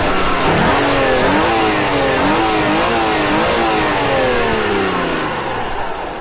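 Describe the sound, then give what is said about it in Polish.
The 3-litre engine of a Lancia Thesis car with an automatic gearbox revs up and down repeatedly, its pitch rising and falling in waves over a steady loud mechanical roar, with no talking. “Lancia Tezis, 3-litrowy motor, automatyczna, inteligentna skrzynia biegów, inteligentne zawieszenie z czujnikami przeciążeń wzdłużnych, bocznych, czyli tak zwane zawieszenie aktywne i mnóstwo różnych innych ekstrasów,”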